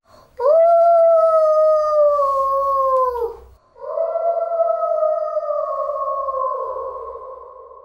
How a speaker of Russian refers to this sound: А из леса слышался вой волка.